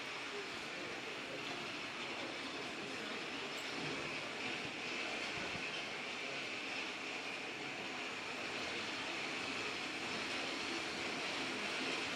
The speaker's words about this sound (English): That's kind of a fun background, isn't it? Almost sounds like a small train going through.